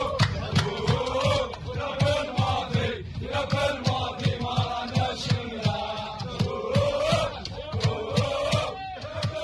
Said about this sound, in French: Mais dès l'avion, écoutez ce qu'ils chantaient dans le fuselage, on va dire, ces supporters.